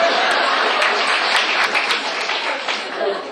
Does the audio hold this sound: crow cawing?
no